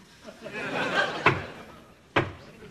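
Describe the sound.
Two firm knocks on a door, spaced just under a second apart, sharp and close, following a soft murmur of background voices that fades before the knocks.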